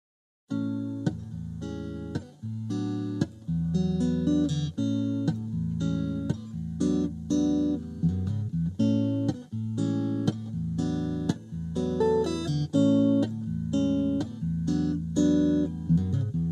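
An instrumental song intro plays alone at a steady, moderate volume, with rhythmic chords struck in a regular pulse over sustained bass notes, and no voices.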